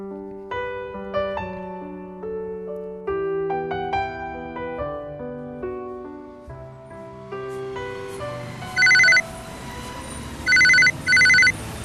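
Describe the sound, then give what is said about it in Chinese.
Soft melodic music plays, then a loud electronic telephone ring sounds three times in short bursts, the last two close together, ringing out clearly over the fading music. It is a wrong-number phone call in a radio drama skit. “打错的电话。”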